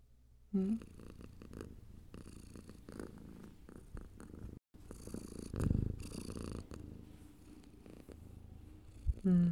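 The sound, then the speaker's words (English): A cat purrs steadily, a low continuous rumble with a soft rhythmic pulse of inhales and exhales, filling the quiet with no voices. “And you should really purr back.”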